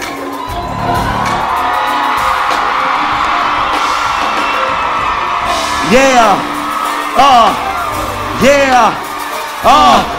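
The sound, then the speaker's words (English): The live crowd at the 85 South Show comedy show in Augusta, Georgia, roars, claps and cheers steadily throughout, and in the second half four loud, sweeping whoops and yells rise and fall above the noise in a rough rhythm. “Augusta, I'm going to need you guys to make as much noise as you can.”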